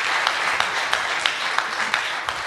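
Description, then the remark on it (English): A crowd at a book event applauds a girl for getting the event started, a steady, dense wash of many hands clapping with a few sharper individual claps standing out at irregular moments throughout. “Let's clap it up for our girl”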